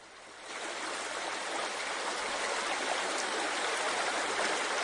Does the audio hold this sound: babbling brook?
yes